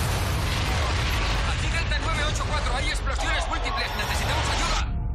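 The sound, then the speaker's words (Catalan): Loud, continuous rumbling from multiple explosions on the streets of Boston fills the scene, with deep booms running under a chaotic babble of shouting voices for the whole stretch before cutting off abruptly. “¡Hay explosiones múltiples!”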